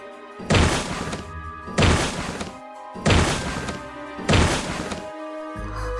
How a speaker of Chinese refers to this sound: 这个时候，大地忽然震动了起来，好像是有什么巨大的动物走了过来。